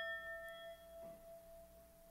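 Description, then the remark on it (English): A Tibetan singing bowl rings with one soft, sustained metallic tone whose shimmering overtones hang steadily through the whole moment, heard alone without any voices. “Oh, ring the Tibetan bell or Tibetan bowl.”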